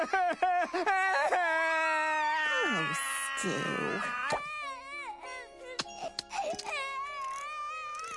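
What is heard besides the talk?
baby crying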